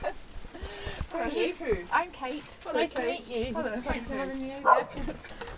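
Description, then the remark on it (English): Two West Highland Terriers bark in short, excited bursts at a visitor while several people talk and greet one another over them, in a home in West London. “I went to visit … in her West London home, where I was greeted by her two lovely West Highland Terriers”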